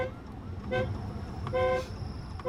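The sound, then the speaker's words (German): A police motorcycle siren in Accra gives two short, loud, steady-pitched blasts about a second apart over the constant rumble of dense city traffic, as an officer on the motorcycle with flashing blue lights leads a vehicle through the traffic. “Ein Polizist lotst uns auf seinem Motorrad mit Blaulicht und Sirene durch den dichten Verkehr.”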